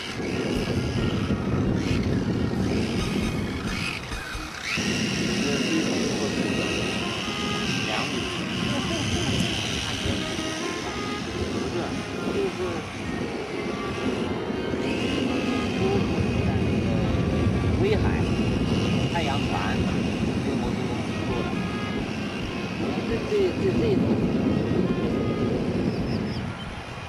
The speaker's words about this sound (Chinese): 这个原来是那个 GWS 的那种那红的那个飞机啊，那个德国飞机啊。